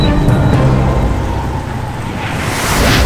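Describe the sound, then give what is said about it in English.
Steady, heavy rainfall hisses continuously in Metropolis, with a deep rumble of thunder rolling underneath and swelling toward the end. No voices, just a dense storm wash. “It's a rainy, rainy day.”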